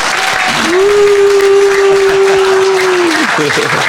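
An audience claps loudly and continuously for about four seconds for a question asked by one of its members, a dense, even wash of applause. A steady, mid-pitched held tone runs through the middle of it and then fades.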